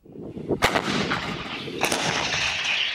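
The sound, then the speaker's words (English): Booming artillery fire in the war in Ukraine: two sharp, heavy blasts about a second apart, each followed by a long, rumbling roar that fills the remaining seconds with no voices. “The battle for Ukraine has turned into a slugfest of dueling artillery.”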